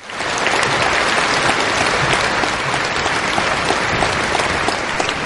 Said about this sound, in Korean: 감사합니다. 다시 한번 그라샤스 합창단에게 큰 박수 부탁드립니다.